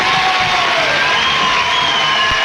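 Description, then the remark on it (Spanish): A television studio audience breaks into loud, sustained cheering and applause for the number one of Uruguayan television, a dense wash of clapping with high shouts and whoops rising above it throughout. “Un gran aplauso para el número uno de la televisión uruguaya.”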